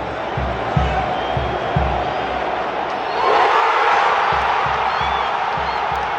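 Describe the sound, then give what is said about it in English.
A dense, roaring crowd of Moroccan football fans cheers continuously, with a rhythmic low thumping like drums or stamping beneath, and the roar swells louder partway through. “Yeah, so many happy Moroccan fans. They're coming in their numbers, waving the red flag.”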